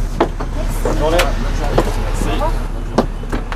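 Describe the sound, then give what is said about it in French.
Passengers step off a bus midway along the ria of Sauzon, in the north of the island, over a steady low engine idle, with sharp clunks and knocks of doors and footsteps and a few voices talking briefly. “C'est à mi-distance de la ria de Sauzon que nous descendons du bus.”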